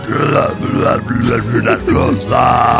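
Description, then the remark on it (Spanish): A boy offering a rose for sale croaks out a run of burp-like, voiced syllables, mimicking speech through belches: low, guttural and loud, in a continuous stuttering stream of about three seconds. “Y es que me ofreció la rosa haciendo su voz con eructos, así de”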